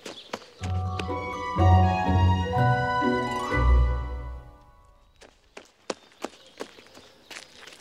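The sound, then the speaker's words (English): A short burst of tuneful music plays, then fades into a run of light, quick footsteps: about eight soft taps in an uneven patter, heard alone as Alice hurries down the path. “And she ran down the path.”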